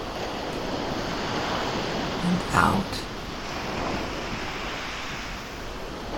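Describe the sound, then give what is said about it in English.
Ocean surf rushes steadily onto the shore, a broad continuous wash with swelling and receding waves, while a calm voice speaks briefly over the water. “Pay attention to the resonance of each wave, how it affects the water within you.”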